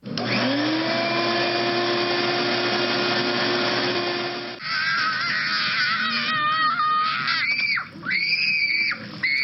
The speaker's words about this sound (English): Heard a shop vac at 70, a kid screaming at 80, and then a motorcycle is 90 decibels.